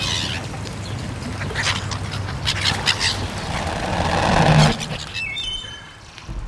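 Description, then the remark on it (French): A gull and a moorhen squabble to grab bread, a busy flurry of squawks, chirps and scuffling that stays loud for several seconds before easing off into quieter calls. “Allez, voilà, la mouette se dispute avec la poule d'eau là pour attraper le pain.”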